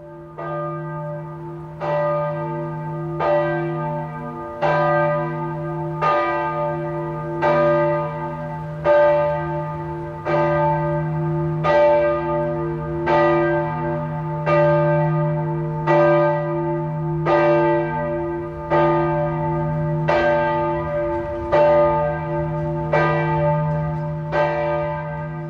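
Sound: church bell ringing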